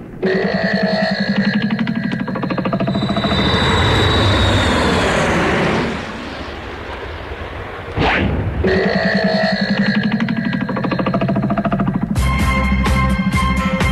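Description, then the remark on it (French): Loud, steady roar of an airplane's jet engines warming up, with a rising whine that builds, briefly drops off, then surges back to a full, droning rumble. No one speaks. “Tu le fais revenir dans du beurre, jusqu'à ce que les réacteurs soient à bonne température et hop, on décolle.”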